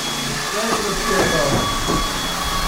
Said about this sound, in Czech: Žije to tu pořád stejně, právě se očišťují lyže, kterých je tu podél stěn několik desítek